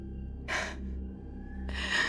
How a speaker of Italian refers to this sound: Mi sono svegliata ansimando e lei era lì, con il viso a pochi centimetri dal mio.